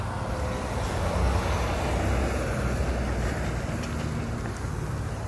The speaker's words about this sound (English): I wonder what that's doing. It's just a big truck on a small road. I wonder if someone's like doing moving or something.